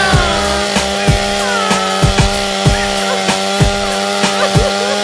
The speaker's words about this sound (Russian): Классика жанра, бензопила.